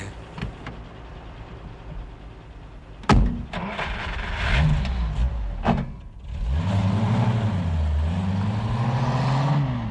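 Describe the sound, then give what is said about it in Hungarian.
A BMW car engine cranks and catches with a sharp burst, sputters briefly, then settles into a steady rising and falling revving idle, fairly loud, with no talking. “Jó kis kocsi ez a BMW.”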